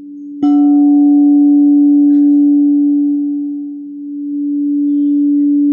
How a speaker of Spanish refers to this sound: Y vamos a empezar primero a escuchar el sonido, este sonido de este cuenco. Y vamos a empezar a enviar el sonido a todo nuestro cuerpo, como empieza a ser como un escaneo del cuerpo.